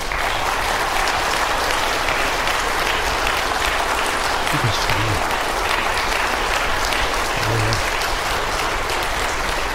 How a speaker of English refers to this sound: And I think we ought to give them applause.